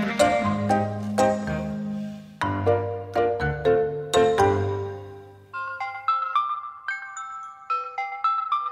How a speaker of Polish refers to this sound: Halo? Coś się stało, że pan tak szybko dzwoni? No przynajmniej dobrze, że na mój telefon komórkowy, a nie służbowy.